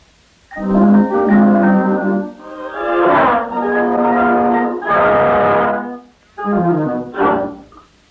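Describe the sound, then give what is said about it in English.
Flutes and clarinets carry a melody over flutter-tongued saxophones and brass, rising in loud sustained phrases with a brief pause before a final shorter burst. “followed by the flutes and clarinets against a background of saxophones and brasses playing flutter-tonguing”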